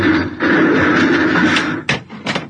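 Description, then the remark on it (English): A heavy blast bulkhead door grinds shut with a loud, steady rumbling hum, cutting off the way to the bridge, then ends in two sharp metallic bangs as it seals closed. “Blast bulkhead. Yeah, we're cut off from the bridge.”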